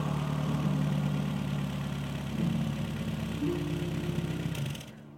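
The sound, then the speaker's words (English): A rough, low engine of an old VW camper idles with a steady growling rumble as it pulls up outside the Clever Hare public house, its pitch shifting slightly as it revs, then cuts off abruptly near the end. “the rough growl of an old engine drew his attention back to the gate.”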